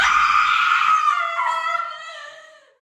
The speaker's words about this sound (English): I don't know why you're crying and why you're screaming, but please leave.